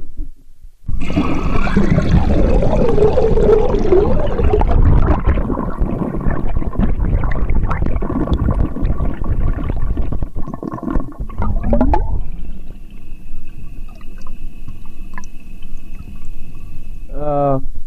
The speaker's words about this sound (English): Wow, okay, I've got to turn the preamp way up to compensate for the loads of water in the microphone, but that, ladies and gentlemen, was the toilet being flushed from inside the toilet using a waterlogged, really crappy stereo microphone.